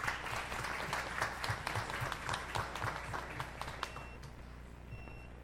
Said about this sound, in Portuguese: Então, nesse momento, eu peço uma salva de palmas à equipe que realiza o trabalho.